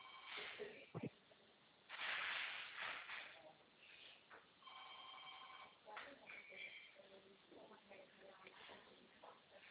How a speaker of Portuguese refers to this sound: Hã? Telefone. Telefone.